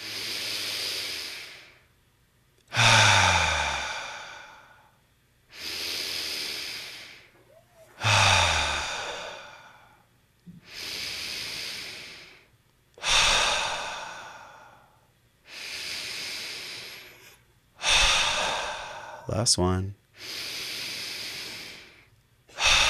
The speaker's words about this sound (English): So go ahead and just take a big breath in through your nose. Go ahead and close your eyes.